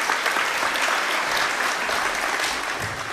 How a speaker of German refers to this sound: Viel Spaß und einen großen Applaus